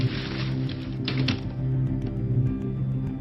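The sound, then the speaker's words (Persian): Quick, irregular clicking of keys being typed, fairly crisp, running over a steady low droning hum for a few seconds with no voices. “باید تایپ کنی.”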